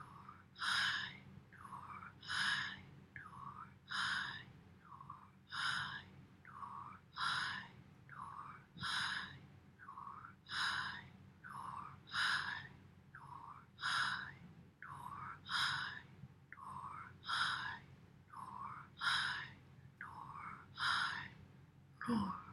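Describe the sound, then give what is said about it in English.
Audible breathing in and out repeats in a steady, even rhythm, each breath a soft airy rush over a faint low hum, with no talking. “Now just breathing in and out, Nur Hay, bringing the light in and growing brighter and brighter, using the breath to clear the dust from the land.”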